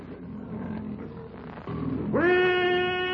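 A half-starved lion roars loudly as it launches a rushing charge, a rough rumbling growl that swells into a long, sustained, powerful bellow over a dense, noisy background.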